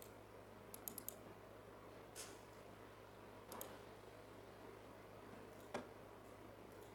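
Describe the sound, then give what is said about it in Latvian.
A few scattered computer keyboard taps during a municipal council committee meeting as voting begins: a quick cluster of clicks near the start, then single keystrokes spaced seconds apart, faint against a steady low hum with no one talking. “To līdz, kolēģi, man liela pirkstu vienkārši te netrāpīja pa klaviatūru.”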